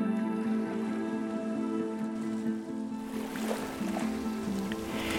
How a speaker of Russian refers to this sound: Стараясь быть незаметными, они проплыли на лодке вдоль внутренней стороны ближних скал и причалили к берегу.